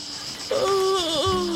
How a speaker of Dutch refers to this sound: Wat is dat met die krekels, zeg?